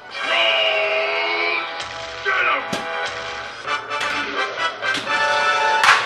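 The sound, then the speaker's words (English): Busy Medieval Madness pinball machine sounds with bright electronic tones and ringing, punctuated by several sharp, loud cracking knocks from the replay knocker, meaning the player scored enough points for a replay or free game; no one talking. “That cracking sound means Frankel had a solid game. She scored enough points to get a replay or a free game.”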